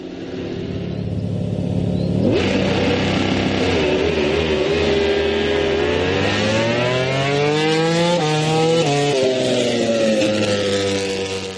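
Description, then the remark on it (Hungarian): MotoGP racing motorcycles scream loudly on the track at the Hungarian Grand Prix in Balatonfőkajár, Hungary, engine pitch climbing and dropping through gear changes as they accelerate, a continuous high-revving roar with no voices. “Nem csak a női kézilabda világ figyel Budapestre ezen a hétvégén, vagy Magyarországra, hanem a motorsport rajongói is, hiszen Balaton fő kajáron ezen a hétvégén rendezik a MotoGP magyar nagydíját.”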